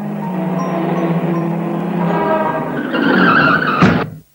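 A car's tyres squeal in a long, rising skid by a road that grows louder, ending in a sharp thump as the car knocks down an animal, then sudden silence. No voices.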